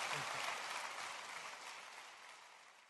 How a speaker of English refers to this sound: Hey, let's give a round of applause to Randy Alcorn for coming today.